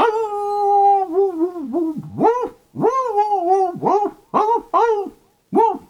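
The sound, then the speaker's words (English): A human voice imitates an old dog howling, one long drawn-out howl followed by a series of wavering, yowling bursts, fairly loud with no other sounds. “Then there's this old dog go.”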